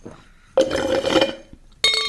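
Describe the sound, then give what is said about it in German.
Clatter of glassware, a rattling burst followed after a short pause by a bright, ringing clink, as a glass of water is fetched. No one speaks. “Ich brauche noch ein Glas Wasser, bevor es losgeht.”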